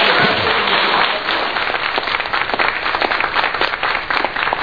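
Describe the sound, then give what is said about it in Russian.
A sustained burst of audience applause, dense crackling claps from many hands filling the whole clip at a steady, fairly loud level with no voices standing out. “Я не понимаю, почему вы не встречаете это аплодисменты.”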